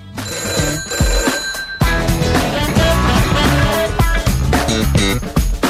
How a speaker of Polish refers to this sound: Telefony dzwonią, a my słuchamy.